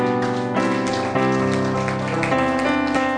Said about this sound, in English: Praise the Lord. Let's give our God a hand clap of praise.